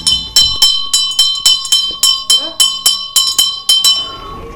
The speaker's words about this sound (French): Cette cloche, c'est celle du rassemblement du centre de soins des toxicomanies du Haut-des-Frais à Gerbépal.